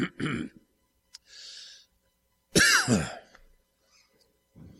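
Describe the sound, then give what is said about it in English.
A person coughs and clears their throat, a short rough cough at the start followed by a louder, raspy throat-clearing burst, with quiet breaths and pauses between. “I'll give you a second to turn there as I collect myself. I'm all coughed up here.”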